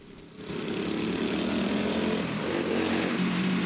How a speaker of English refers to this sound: In his yellow jumpsuit, Dignan speeds up to him on a miniature motorbike.